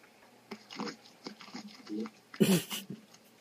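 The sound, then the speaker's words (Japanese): Water sloshing inside a squishy toy as it is squeezed: a series of short, soft squelchy bursts, then one louder, wetter gush near the end before it trails off. “水の音してるやろ。”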